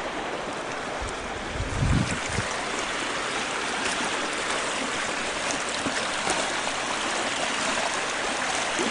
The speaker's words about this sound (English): Some places it's almost frozen over, just a little over a foot wide, but the water is running on top.